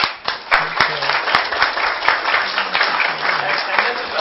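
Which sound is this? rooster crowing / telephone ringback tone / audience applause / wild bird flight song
audience applause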